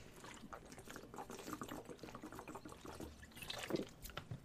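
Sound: pouring and drinking water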